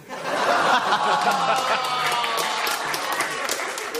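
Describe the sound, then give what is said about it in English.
An audience groans and mutters while clapping at the same time, a steady wash of crowd voices under scattered, rapid hand claps that keeps going for several seconds. “I love it when people go, ugh, and clap at the same time.”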